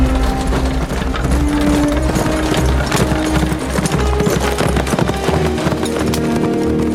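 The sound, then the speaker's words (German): Rapid, driving clip-clop of galloping hooves pulling a horse-drawn wagon racing toward Dresden in the rain, with a rattling, clattering undertone of wheels and harness, loud and continuous throughout. “Los, fahr schon! Schneller! Kannst du nicht schneller fahren?”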